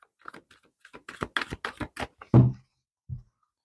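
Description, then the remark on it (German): Shuffling of tarot cards: a quick run of crisp, papery clicks as the deck is briefly reshuffled, then a heavier slap and one soft tap as cards are drawn from the deck and laid down. No voices. “Und ich mische noch mal kurz durch und dann ziehe ich die Karten aus dem Stapel.”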